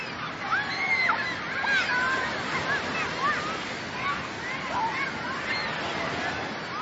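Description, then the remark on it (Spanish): Steady rushing surf fills a busy beach, with chatter and occasional high-pitched shouts from bathers carrying over the continuous wash of the waves. “¿qué palabras asocian con playa?”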